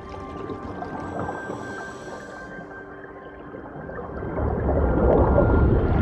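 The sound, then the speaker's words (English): Muffled underwater gurgling and churning ocean water with faint tonal hums, swelling into a louder, rumbling rush of bubbles toward the end as two people plunge into the ocean. No voices. “Both Valeries plunge into the ocean.”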